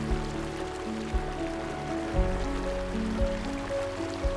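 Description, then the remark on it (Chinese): A steady wash of flowing stream water runs continuously, soft and unbroken, with gentle sustained musical tones humming underneath. No one speaks. “感受小溪把爱心带入你的内心。小溪也为那柔软的地方带来洁净。”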